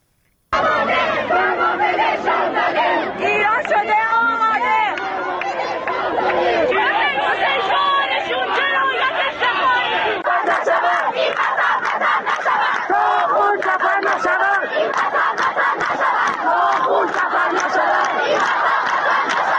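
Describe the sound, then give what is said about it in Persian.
A large crowd of student protesters at universities in Iran, on a Tuesday and the fourth consecutive day of protests, shouts and chants together in loud, rhythmic bursts, many voices overlapping continuously, with the chanting growing denser and more clipped in the second half. “بر اساس گزارش‌ها و تصاویر دریافتی از ایران، روز سه‌شنبه اعتراض‌های دانشجویی برای چهارمین روز پیاپی در شماری از دانشگاه‌های ایران ادامه داشت.”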